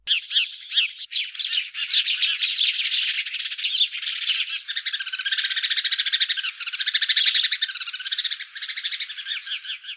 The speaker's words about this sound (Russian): Некуда птицам деваться. Стали они стайками собираться, думушку думать. Собрались, покричали.